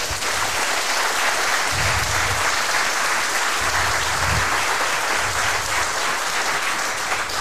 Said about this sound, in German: Applaus für die beiden.